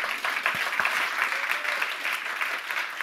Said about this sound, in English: Two, you will get a spontaneous round of applause from everyone in TEDx Technion.